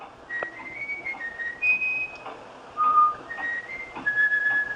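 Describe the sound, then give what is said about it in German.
A bullfinch whistles a folk tune: a run of clear, pure fluting notes, some held and some short, stepping up and down in a simple melody with no other sounds. “Und offenbar haben die Gimpel einen so großen Speicher, dass so ein Volkslied da reinpasst.”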